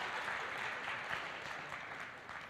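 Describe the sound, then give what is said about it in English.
A crowd claps steadily in a dense, continuous wash of applause, fairly loud and sustained throughout with no one speaking. “And give him a round of applause.”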